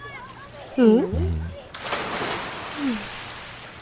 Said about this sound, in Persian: اگه یه بار دیگه رو خواهرت آب بپاشی میای بیرون.